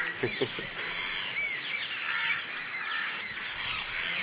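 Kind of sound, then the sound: vocal imitation, people imitating bird calls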